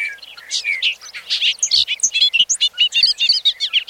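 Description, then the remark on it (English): A bobolink's bubbling, tumbling song over an open field across a road in the evening: a rapid jumble of bright, metallic notes and liquid warbles at high pitch, fairly loud and continuous for several seconds, with no voices. “Across the road, over the open field, a bobolink sings his last song of the evening.”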